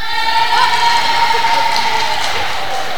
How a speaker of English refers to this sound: Now, let's see if the other side can do any better. Let's have a cheer for this team.